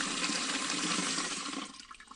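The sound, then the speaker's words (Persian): Water pours steadily from a tap with a loud, hissing rush. Near the end the flow thins and fades as if the tap is being shut off. “پس لازم است در حین شستشوی دست‌ها شیر آب را ببندیم.”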